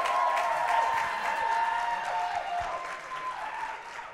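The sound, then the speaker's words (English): A crowd claps steadily and loudly for several seconds to welcome Pastor Neil of Every Nation Church Malaysia, with cheering and a few whoops mixed into the dense, continuous applause. “So ladies and gentlemen, please give it up for the rocker, the one and only Pastor Neil!”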